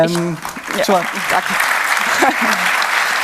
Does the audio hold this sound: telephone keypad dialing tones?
no